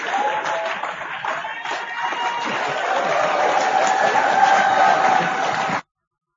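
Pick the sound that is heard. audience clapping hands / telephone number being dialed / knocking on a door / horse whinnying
audience clapping hands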